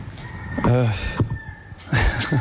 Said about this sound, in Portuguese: Isso. Bom toque. Está o Galo a cantar.